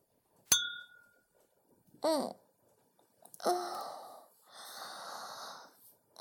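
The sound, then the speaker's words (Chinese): A single bright, ringing clink of glasses raised in a toast with alcohol rings out at the start, followed by a short vocal murmur and long, breathy exhales like someone sighing after taking a drink. “算了算了，先喝吧，能喝多少算多少。来，干杯。”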